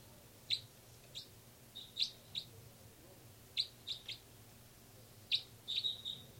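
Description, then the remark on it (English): Birds chirp in short, high, sharp notes, scattered in small clusters of two or three over a low steady hum, fairly quiet, with no one talking. “Also on the side are birds 318 and 298.”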